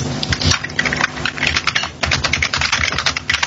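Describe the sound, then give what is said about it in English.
Rapid, uneven clatter of keys being typed on a computer keyboard, fairly loud, with brief pauses between bursts and no voices. “Sorry, I've been hitting my keyboard.”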